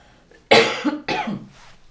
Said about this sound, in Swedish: Nu måste jag hosta igen, ursäkta.